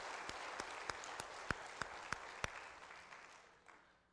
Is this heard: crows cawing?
no